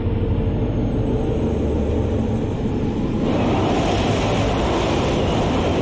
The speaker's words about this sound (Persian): آی داداش بزرگه، هیچ خطری نی، این فقط باده که وسطشن رد میشه و صداش از ساختمونا میپیچه. انگار که شهر ارومالو داره گریه میکنه.